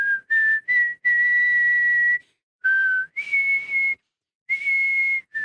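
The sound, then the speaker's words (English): A person whistles a short melody, with clear sustained pure notes in separate phrases, some held long and others quick, and brief pauses between them. No talking. “I think that's just normal whistling.”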